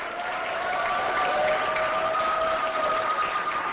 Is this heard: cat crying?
no